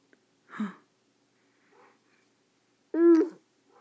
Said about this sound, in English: Who's barking? Yeah. Woof. Good boy. Yeah. Woof.